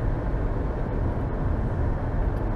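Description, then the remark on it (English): A car with a loud, rumbling exhaust muffler drones steadily, a deep continuous growl holding at an even level with no voices. “Fart muffler. You got a fart muffler.”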